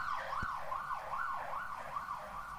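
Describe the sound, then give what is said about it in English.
A fire engine siren sounds loud as the fire engine leaves, repeatedly rising and falling in a quick, steady wail with a low thump near the start. Nobody speaks. “This is a fire engine. I'm making conversation about scrambled tofu while the fire engine leaves.”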